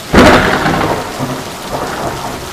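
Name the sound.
thunder rumbling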